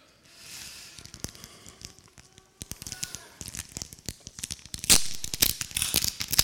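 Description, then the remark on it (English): Loud paper tearing and crinkling as wrapping is ripped off a gift, a burst of rustling strips and sharp rips building in intensity, with no talking over it. “Are you the sort that take hours over opening presents, or do you just rip the paper off?”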